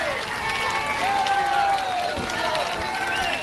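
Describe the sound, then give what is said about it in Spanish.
A large crowd at the Club Náutico cheers and applauds continuously for the arrival of King Juan Carlos, a dense wash of clapping and shouting voices at steady volume, with individual calls rising and falling throughout; four minutes of cheers and applause. “El rey Juan Carlos llegaba pasada las 12:30, como decís, a bordo del coche particular del presidente del Náutico y acompañado de la infanta Elena y 4 minutos seguidos de vivas y aplausos.”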